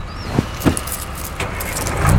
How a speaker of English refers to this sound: After he started up the truck, which … was happy to hear ran like a charm, Boris gave … a crash course on dump truck operation.